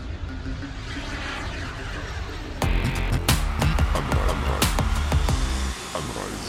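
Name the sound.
airplane engine sound effect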